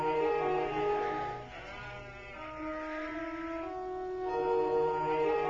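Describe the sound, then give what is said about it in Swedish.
Sheep bleat continuously and fairly loudly, several wavering calls overlapping with brief dips between them, like a small flock. No one speaks. “Nu tror du att han kommer hjälpa oss med att vattna fåren?”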